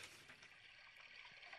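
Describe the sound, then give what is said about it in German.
Continuous splashing, burbling water fills the whole stretch at a steady level, a busy wash of liquid noise with no voices over it. “Gehörst du abbouncen zu diesem Wasserplätscher hier.”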